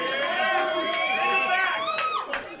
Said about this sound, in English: This is a... this is a good crowd because they're cheering a team that consecutively sucked. Yeah. That's why I like this crowd.